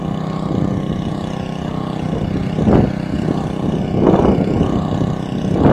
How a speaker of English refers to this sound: There's certainly a generator.